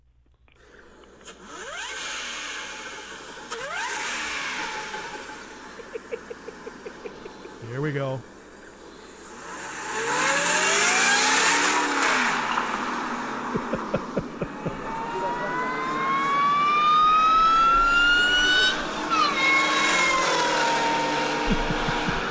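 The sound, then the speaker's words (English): A screw-type supercharged car engine revs hard several times, its high whine sweeping up and down in pitch as it accelerates, loud, with a brief spoken phrase near the start. “the screw-type ones, make a sound that's different from everything else”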